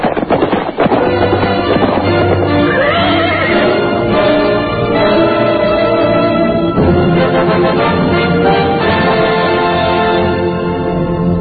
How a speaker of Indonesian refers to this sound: Baru saja Putri Tunggadewi selesai berkata-kata, dari jauh terdengar dua ekor kuda berderap semakin lama semakin dekat.